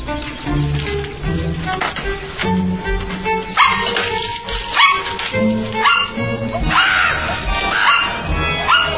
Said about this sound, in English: your dog is in my house.